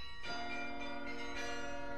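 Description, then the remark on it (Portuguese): The carillon bells of the National Palace of Mafra, Portugal, ring out with a rich, sustained metallic tone, a new stroke entering around a quarter second in and blending into a layered, resonant wash. The palace has two carillons with 119 bells, heard again after 20 years. “20 anos depois, voltam a ouvir-se os carrilhões do Palácio Nacional de Mafra.”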